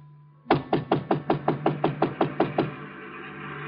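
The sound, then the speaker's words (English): A rapid, steady run of about a dozen loud knocks on the door of a closed restaurant, evenly spaced over two seconds, then stopping, with a faint low hum in the background. “I got to Chinook's and it was closed. I knocked on the door.”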